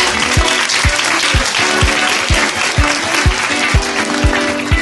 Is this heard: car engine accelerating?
no